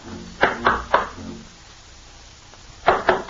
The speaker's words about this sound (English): All right, here, we'll just knock on the door.